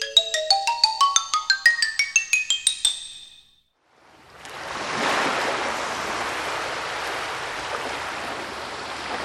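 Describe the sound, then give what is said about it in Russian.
A quick rising run of bright chimes, a brief silence, then a steady, full wash of ocean waves rolling onto a sandy ocean shore, sustained and fairly loud with no voices. “Мы снова на песчаном берегу океана.”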